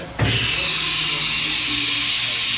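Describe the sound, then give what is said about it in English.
A drill press in a VTC lab kicks on abruptly and keeps running with a steady, loud whir and hiss, a low motor hum underneath, with no voices. A team has entered data into it to start cutting a block held in a vise to make a puzzle. “As a team enters data into the drill press to start making the puzzle,”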